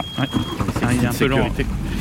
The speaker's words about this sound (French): Alors il fait nuit, on allume le moteur du bateau.